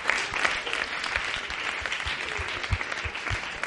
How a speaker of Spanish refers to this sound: La otra chica aplaude.